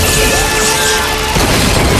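A loud explosion blasts a police car into the air amid smoke and flames, roaring through the whole clip as a dense, rumbling blast, shifting partway through into crackling, crashing debris. No one speaks.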